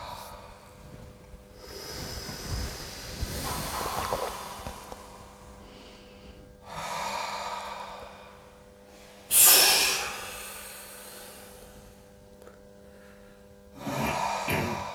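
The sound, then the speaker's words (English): Forceful breaths rush in and out in a few spaced bursts during a round of a breathing exercise, one sharp exhale standing out louder than the rest, with quiet pauses between and no talking. “And after this fourth and last round, you can return to your natural breathing.”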